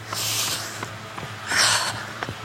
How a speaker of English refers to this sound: So on that note, let's check in with our senses. Let's go take a nice deep breath.